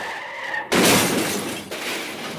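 Tires screech with a brief high skid, then a loud car crash erupts into a sustained burst of shattering glass and crunching metal, with a second smaller impact a moment later.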